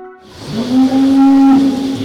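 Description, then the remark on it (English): A Holstein cow at the UT AgriSearch's Little River Dairy Unit in Blount County lets out a single long, loud moo, rising briefly and then holding a steady low pitch for over a second before fading. No one speaks. “Here, one of the barn residents does the honor, a Holstein at the UT AgriSearch's Little River Dairy Unit in Blount County.”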